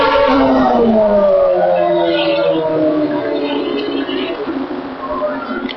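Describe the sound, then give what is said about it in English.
A Formula One car with yellow and green Camel sponsorship, approaching from some way off at Goodwood on Friday free practice day: a loud, continuous high-pitched engine whine whose layered tones glide slowly downward in pitch for several seconds. “And we can really hear the engine for this one coming from some way off.”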